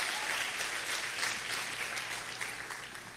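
An audience applauds for Jesus in a steady, dense wash of clapping that holds at an even level for a few seconds, with no voices standing out above it.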